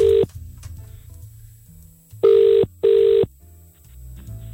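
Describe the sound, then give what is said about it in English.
Ringing tone of an outgoing phone call, a loud steady buzzing purr: one clipped burst at the start, a pause, then a double ring, with a faint low hum between. “Right, it's ringing. Put it through to the desk.”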